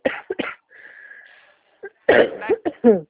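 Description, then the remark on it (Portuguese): A woman on a phone call coughs: two quick coughs, a pause filled by a faint steady tone, then a louder burst of three or four harsh coughs in a row. “A senhora tá meio gripada? Tá tossindo aí?”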